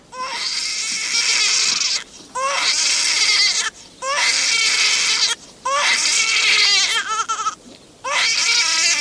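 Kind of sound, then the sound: human body sound, newborn baby crying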